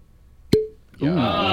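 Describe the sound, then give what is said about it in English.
A single crisp cork pop from a cognac bottle, sharp with a brief hollow ring, followed moments later by a voice reacting. “Should we do the cork pop?”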